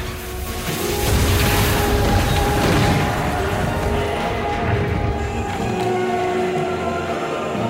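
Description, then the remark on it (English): The spacecraft Cosmos clatters in through the open docking doors of Mars One and scrapes heavily along a metal bulkhead until it crashes to a halt, a loud grinding rumble with shrill metallic whines that swells quickly, then keeps grinding steadily with crashing jolts. “Cosmos clatters in through the open doors and scrapes along the bulkhead until it crashes to a halt.”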